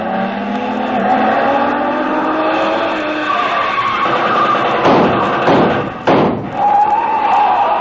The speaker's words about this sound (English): Speeding toward the same destination is another car. Leave us see who is in it.